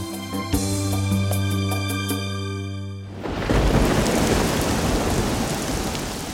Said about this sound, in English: That night, another storm started. The wind blew and the rain fell.